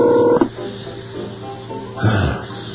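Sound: telephone keypad dialing tones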